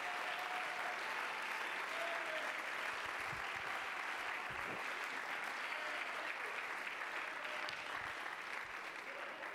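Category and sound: crowd, audience clapping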